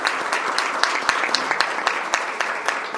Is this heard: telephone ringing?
no